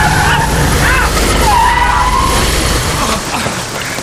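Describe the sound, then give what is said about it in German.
Tires screech loudly in a sustained, wavering skid as a car brakes hard to a sudden stop in the rain in front of a boy riding a bicycle, over a dense rumble of engine and road noise. “Vorsicht, Junge! Das Auto!”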